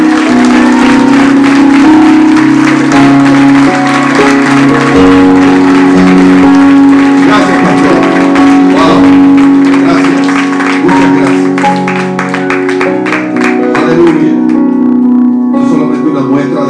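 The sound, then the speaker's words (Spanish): An audience applauds the King, the Lord, loudly and steadily for the whole stretch, dense clapping layered over sustained music with some voices mixed in. “Denle un aplauso al Rey, Señor.”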